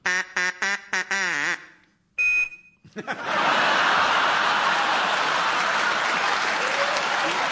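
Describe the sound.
A quick run of nasal duck quacks, about half a dozen in two seconds, then a brief whistle-like tone before loud applause from an audience takes over.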